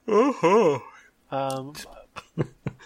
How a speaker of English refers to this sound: excited yawn. Yeah, I'm bringing it back.